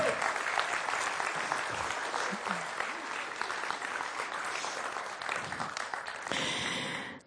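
An audience applauds steadily for several seconds, a dense wash of many hands clapping at even loudness, with a brief swell near the end before it cuts off.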